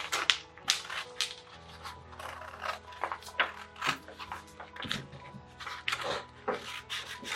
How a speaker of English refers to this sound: and then I'm going to take my scissors, and to make sure that it fits the box correctly, boys and girls, just cut slightly on the inside of that line that you've drawn.